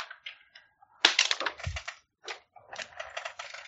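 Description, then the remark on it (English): Dice, including a dropped die, clatter onto a tabletop during a tabletop roleplaying game in a few sharp bursts of rapid clicking and rattling, with short pauses between, and no voices. “I dropped a die.”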